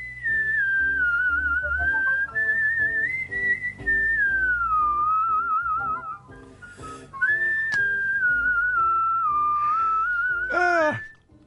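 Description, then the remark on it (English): A young kid whistles a melodic tune in a clear, high, steady tone, gliding between sustained notes over a soft instrumental backing, ending with a quick rising-and-falling flourish. “My mother loves this, by the whistling.”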